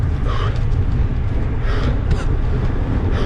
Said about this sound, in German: Da musste ich ganz schön schnaufen, hier die Brücke nochmal rauf.